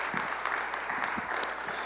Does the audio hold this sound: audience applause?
yes